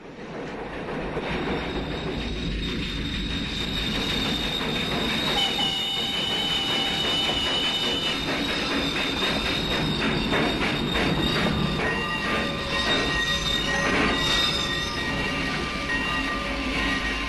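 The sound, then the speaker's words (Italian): A train arrives in the opening scene of Sergio Leone's 1968 film Once Upon a Time in the West, its steady heavy rumble laced with high metallic wheel squeals and screeches, loud and continuous throughout with no voices. “La prima scena racconta proprio l'arrivo del treno e un duello.”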